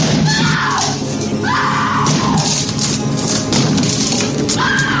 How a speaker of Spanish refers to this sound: Nicholson, a chan mano, intenta derribar la puerta del baño donde se esconden su mujer y su hijo.